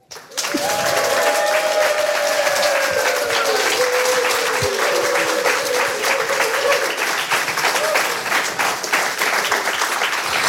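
A crowd breaks into loud, sustained applause, dense clapping that keeps up evenly for about ten seconds, with a few faint whistles or cheers riding over it.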